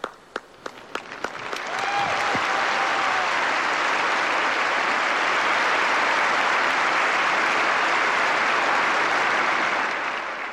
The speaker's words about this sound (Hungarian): Kedves hallgatóink, a nagy taps vihar köszöntötte a mai napon is a Szentatyát, aki most levonul a püspökökhöz.